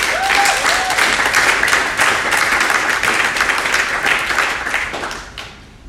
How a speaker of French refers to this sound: On peut aussi l'applaudir.